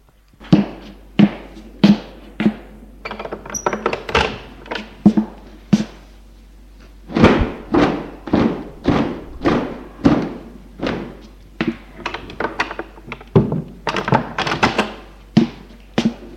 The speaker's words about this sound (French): Pour aérer à la fenêtre les draps et couvertures, prend une couverture, va à la fenêtre, l'ouvre et la secoue.